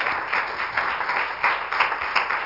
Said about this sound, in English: If you love the Lord tonight, just give him a hand clap of praise. Amen. Thank you, Lord.